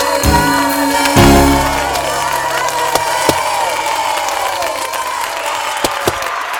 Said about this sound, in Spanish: Sí, mis queridísimos, happy birthday a Salud en Cuerpo y Alma. Aplausos.